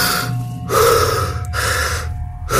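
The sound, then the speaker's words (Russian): Deep, loud breaths drawn in and pushed out, about two full cycles with a short pause between, each breath a rushing, airy sound, as a patient breathes on a doctor's instruction during an examination. No one speaks. “Ну, Давайте послушаем. Дышите. Не дышите. Дышите.”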